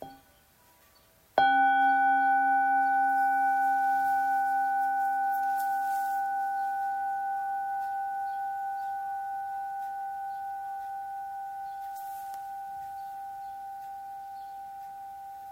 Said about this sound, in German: Wir hören erstmal einen Klang der Glocke und dann betrachten wir diesen Vers.